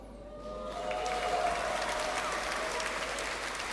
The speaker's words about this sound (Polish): Tylko na pielgrzymce można usłyszeć brawa, jak ktoś powie, że wstajemy, możemy spać aż do 6.